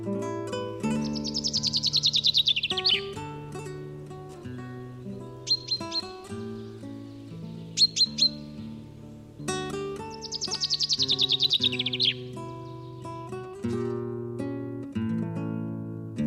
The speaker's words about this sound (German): Das war der Buchfink.